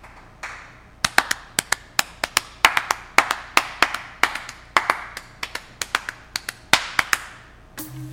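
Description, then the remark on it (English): A clapping jingle, Steve Wright's clappy music: crisp handclaps in a brisk, patterned rhythm over a soft musical wash, ending abruptly as a different sound cuts in. No one speaks. “clap your Steve Wright's clappy music if you want.”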